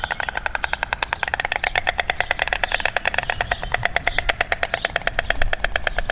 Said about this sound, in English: or more accurately, the sound of a pair of white storks, greeting each other at their nest. Storks don't really have any voices to speak of, so they communicate with each other by rapidly opening and closing their long beaks, making a clapping noise.